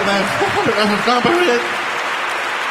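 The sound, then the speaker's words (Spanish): A steady burst of audience applause, a dense crackling wash of clapping that holds throughout, with voices calling out over it during the first half. “Un aplauso, por favor.”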